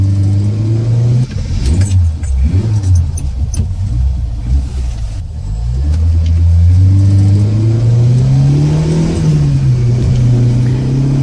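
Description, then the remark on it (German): A car engine revs and accelerates during a chase on a road winding down toward the coast, its pitch dropping between gear shifts and then climbing steadily again. The engine is loud, with a light metallic jingle early on and no voices. “Justus stieg zu Peter ins Auto und los ging die Verfolgungsjagd.”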